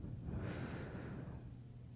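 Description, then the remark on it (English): A single slow, soft exhale during barefoot walking meditation, a steady breathy rush that lasts about two seconds and gently tapers off, with no talking. “Breathing out.”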